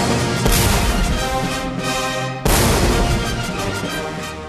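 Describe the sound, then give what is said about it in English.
A loud, full orchestra plays a grand, brassy passage of the 1812 Overture while two deep cannon blasts boom out, one early and another midway, each jolting the music with a sharp, heavy thud. “Turns out the overture of 1812 has nothing to do with America.”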